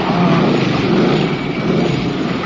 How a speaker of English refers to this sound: You hear the Harley engine.